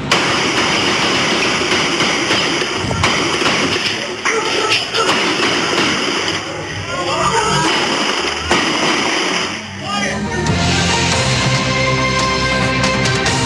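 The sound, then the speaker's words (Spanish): Several sharp gunshots fired from a vehicle crack out at irregular intervals over a loud, steady rumble of engine and street noise, at bus stop 26 in Cerro Rodelillo, Valparaíso, followed by murky tonal sounds near the end. “Ahí pudimos escuchar diferentes disparos provenientes desde un vehículo.”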